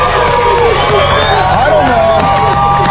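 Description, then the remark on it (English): An excited crowd in Sacramento, California, gathered for Good Morning America, Railfare 99 and the Don and Mike radio show, cheers and shouts, many voices overlapping in a loud, steady roar with rising and falling whoops running through the whole three seconds. “We got a crowd of people here.”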